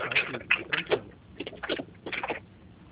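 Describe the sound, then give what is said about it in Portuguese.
A pen scratches quickly back and forth on paper in short, irregular bursts to restart its ink after it stopped writing, fairly quiet, with brief pauses between strokes and no voices. “Espera aí, só um minutinho, parou de ficar. O caneta parou de pegar.”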